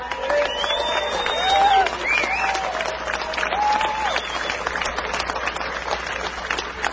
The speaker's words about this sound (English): Several of the distinguished guests that are sitting up front are now standing in applause